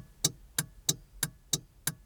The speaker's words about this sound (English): Some car sounds are more obvious, like the horn or the engine. But what about the not obvious until you point them out sounds, like the sound of the blinker?